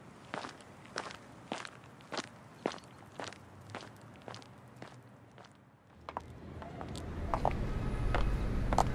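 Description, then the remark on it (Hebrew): A man carrying a suitcase walks alone down an alley at a steady, even pace, each step a crisp, sharp click. Partway through, a louder rushing noise swells in and the steps grow sparse beneath it. “בסוף השיר הן מוחות לו כפיים בלתי נשמעות, הוא קד לעברן קידה קטנה וממשיך לבד עם המזוודה בסמטה.”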